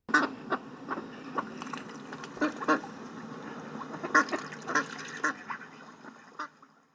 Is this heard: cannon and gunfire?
no